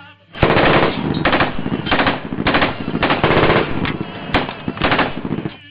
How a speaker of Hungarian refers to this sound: 12 katona állt fel, velük szembe töltött fegyverrel, majd midőn parancsnokuk kardjával intett, a lövések elgördültek.